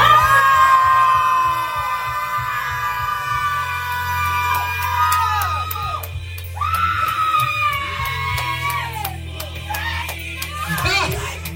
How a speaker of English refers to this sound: I want y'all to scream. And when you scream this time, I want you to release it all unto God. For real. On the count of three. One, two, three. Scream.